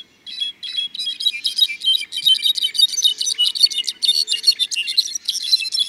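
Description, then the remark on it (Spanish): Songs of rufous-browed wren and brown-backed solitaire echoing through a forest reserve of tropical oaks: a dense, unbroken stream of high, flutelike whistles and tinkling phrases, overlapping in quick bursts throughout, with no voices. “Las voces aflautadas del saltapared cejas canela repercuten en el bosque. En sintonía con las tonadas centellantes de clarines jilgueros.”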